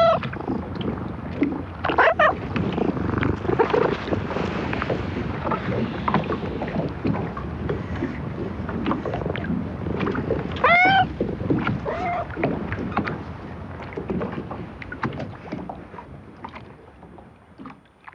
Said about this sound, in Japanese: ボートの漁船が友綱で岸壁とつながれ、穏やかな波に揺れています。夏っぽいペルシャ風のモフモフの猫です。猫の声と波の音、時間がゆっくりと流れていきます。